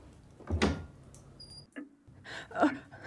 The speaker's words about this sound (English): Oh no, he's back. Quick! I shut the drawer quickly and sit by the fire.